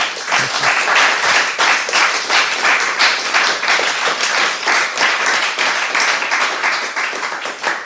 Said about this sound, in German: Nochmal sehr warmen Applaus, dass du da gewesen bist. Vielen Dank.